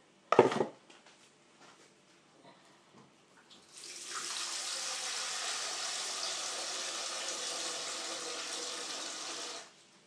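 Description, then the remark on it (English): A sharp clatter opens, followed by quiet handling noises, then a tap runs steadily for about six seconds, pouring water into a dog's bowl with a broad, even hiss before shutting off. “Let's go and get you some water.”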